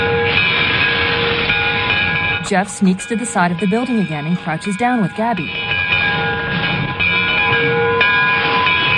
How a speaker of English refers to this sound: As the train approaches the woodpile,